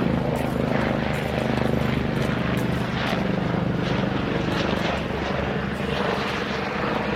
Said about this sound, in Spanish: ¡Uy! ¡Un helicóptero! ¿Será un ubercóptero?